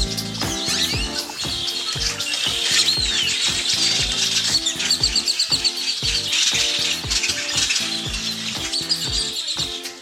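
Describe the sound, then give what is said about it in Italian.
A flock of birds in flight fills the air with dense, overlapping chirps and tweets, loud and continuous for the whole stretch, over a steady rhythmic low pulsing underneath. No one speaks. “Quello che avete sentito è uno stormo di uccelli che vola.”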